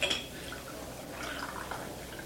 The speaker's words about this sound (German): Darf ich Ihnen noch Kaffee einschenken? Ja, bitte.